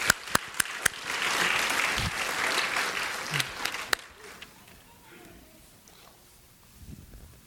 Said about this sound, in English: Give her a hand of applause.